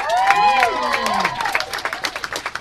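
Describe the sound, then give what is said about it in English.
An audience applauds poets with dense clapping while voices whoop and cheer over it, then the cheers fade and the clapping thins into scattered, separate claps. “have another round of applause for the poets, man.”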